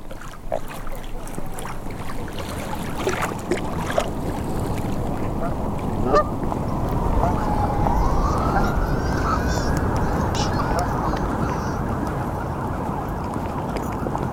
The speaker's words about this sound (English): I can hear the swans and ducks. The splash of water.